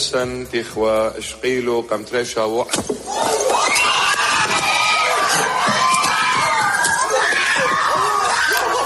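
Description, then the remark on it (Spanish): Panicked shouting and screams from parishioners at a church Mass, streamed live online, as an attacker in a black sweatshirt stabs the priest. A few loud, strained individual cries erupt into a dense, continuous uproar of many overlapping voices. “Una misa que, por cierto, se estaba retransmitiendo en directo a través de Internet y en la que hemos visto cómo el atacante, vestido con una sudadera negra, se acercaba al sacerdote y lo atacaba. Varios feligreses han salido a socorrerle.”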